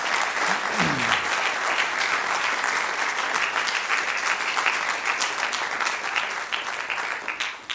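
A room full of people applauds steadily for several seconds, the dense clapping staying loud and even throughout, with a brief voice rising faintly beneath it near the start.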